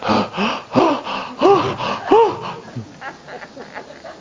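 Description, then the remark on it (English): A voice imitates the heavy panting of young men who collapsed along the path during a running race: a quick run of loud, breathy gasps with a rasping voiced edge, about five or six in a row, then trailing off into softer, fainter breaths. “They'd keeled out and they'd fallen down along the path and they were panting.”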